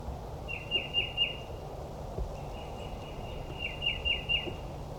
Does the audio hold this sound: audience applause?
no